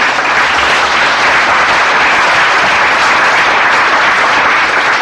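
Loud, sustained audience applause, a dense wash of many hands clapping at a steady level for about five seconds with no voices over it.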